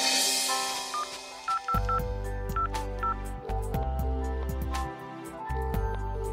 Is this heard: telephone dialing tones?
yes